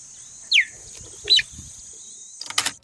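Two sharp, high-pitched chirps from a cheetah in Serengeti National Park, Tanzania, recorded on a field recorder, the first sliding downward, spaced about a second apart against a steady background buzz of insects, followed by a brief rustling burst.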